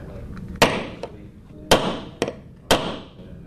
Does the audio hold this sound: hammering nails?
yes